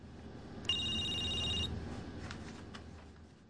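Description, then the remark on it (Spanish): A telephone rings once with a bright, buzzing electronic trill lasting about a second, standing out clearly over a low, steady background rumble, then fades into faint clicks as the receiver is picked up. “descuelga el teléfono.”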